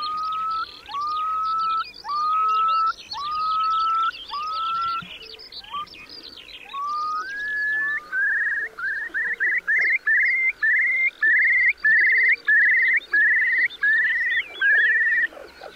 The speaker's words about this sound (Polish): Głos spokojnych ptaków, zwykle siedzących na ziemi, jest bardziej anemiczny, z długo powtarzaną pierwszą częścią.